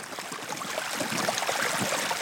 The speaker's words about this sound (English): It sounds like it's melting. That's water pouring off the ice. You know, first it's in these little streams, and those flowed into actual rivers on top of the ice. And then the river kind of just disappears into this dark, terrifying hole in the ice.